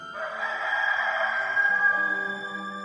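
A rooster lets out one long, drawn-out crow, loud, held for a few seconds over a soft low musical tone that shifts pitch beneath it.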